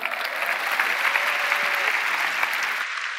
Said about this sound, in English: Come on, let's give Jesus a big hand.